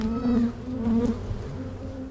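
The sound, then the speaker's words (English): A steady, droning buzz of many honeybees swarming around a hive in the swamp exhibit at Audubon Zoo, continuous with a strong low hum that swells and wavers slightly throughout. “thank you so much for taking me into this unknown part of the swamp exhibit where the bees live.”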